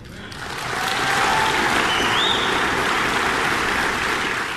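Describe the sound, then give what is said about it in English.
The audience at Lancaster Baptist Church applauds a candidate for governor speaking about choice in education, the clapping swelling in the first second and then holding as a dense, loud, even wash of claps with no voices standing out. “And a lot of applause a number of times.”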